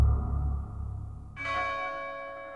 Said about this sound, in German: Ein Glockenton. Fröhlich beschwingt. Eine Glocke, die das Herz erbeben ließ.